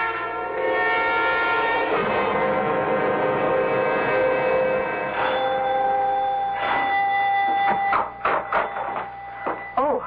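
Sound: doorbell ringing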